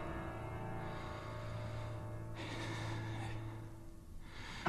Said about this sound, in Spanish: Mi respiración se hace profunda.